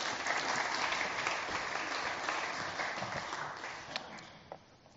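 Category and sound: crowd, audience round of applause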